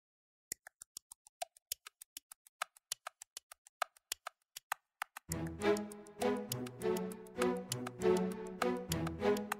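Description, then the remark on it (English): A clock ticks in a quick, steady, even rhythm, about twenty crisp clicks standing alone, before bright music kicks in and takes over for the rest. “Tick tock, tick tock, look at the clock.”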